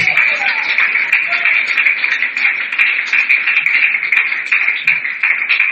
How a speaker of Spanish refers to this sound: Y le damos un aplauso a aquel que lo puede hacer verdaderamente.